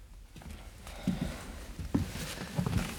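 horse hooves clip-clopping

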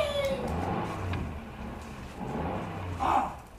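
car driving off

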